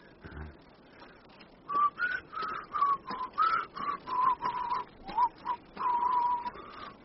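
person whistling

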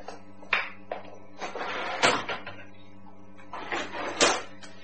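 drawer being opened

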